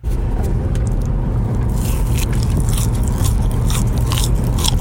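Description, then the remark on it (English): Chewing of a crunchy puffed corn snack, steady crackly crunches repeating throughout with wet mouth sounds, loud, with no talking. “That's like a Cheeto. Pirate's candy. Yeah. Like a puff. Yeah. You're still chewing.”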